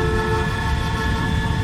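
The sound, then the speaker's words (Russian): A loud, sustained car horn blares without a break in a traffic jam, a steady droning honk with a low rumble of road noise underneath, continuous throughout. “Самолет стоит в пробке.”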